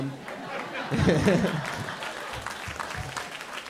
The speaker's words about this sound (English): Are there any tourists here today? Tourists? Visiting D.C.? Clap it up. Clap it up. And everyone else, please clap for their terrible planning.